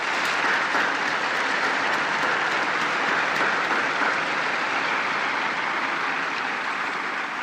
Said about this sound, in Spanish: Un aplauso para las nuevas beatas.